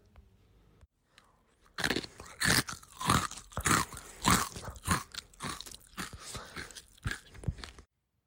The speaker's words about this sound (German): Du hast sehr gute Ohren und konntest sogar hören, wie … und … Kekse kauen.